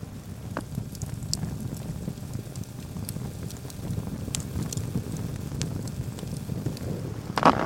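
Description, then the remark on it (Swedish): A campfire crackles steadily at night in midwinter in Skuleskogen, Höga kusten, with snow on the spruces and minus 13 degrees, with irregular sharp pops and snaps over a low, breathy roar of flames and wind, moderately loud, with no voices. “Och vi står här och njuter av, vi kanske ska lyssna lite på det här spraket från brasan.”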